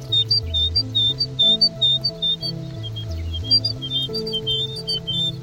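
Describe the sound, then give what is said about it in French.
A great tit sings its territorial song: clear, high two-note phrases repeated in a steady rhythm, alternating between two slightly different territorial song patterns from the same bird, with low stepping musical tones playing underneath. “La petite mésange charbonnière.”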